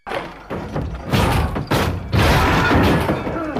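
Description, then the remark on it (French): Heavy thuds and bangs as sailors force the wooden door of the captain's cabin aboard the Bounty with a shoulder blow: a few forceful impacts with creaking and rattling, ending as the door gives way with a loud burst and scuffling as they rush in. “La porte céda sous une pression vigoureuse et les matelots se précipitèrent dans la cabine.”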